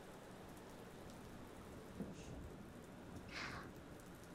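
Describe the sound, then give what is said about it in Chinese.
Steady, fairly quiet rainfall in the mountains hisses throughout, with a low rumbling of thunder underneath and two brief brighter splashes near the end. No one speaks. “啊，在山里走路的时候下雨了，就来这里避雨了吗？”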